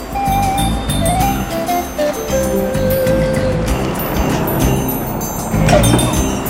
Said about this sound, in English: The bus pulls up to the Winnipesaukee stop, right next to the general store.